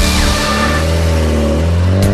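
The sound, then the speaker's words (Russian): A car engine revs loudly, its rich harmonic growl holding steady and then climbing slightly in pitch near the end, with no voices present. “Моторы.”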